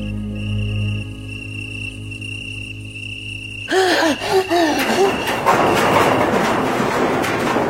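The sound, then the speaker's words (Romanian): A steady, high cricket trill sounds alone for a few seconds, then sudden gasping cries and a loud rushing, clattering noise break in and drown it out. “Iau un greier! Un greier acolo! O să sară pe mine!”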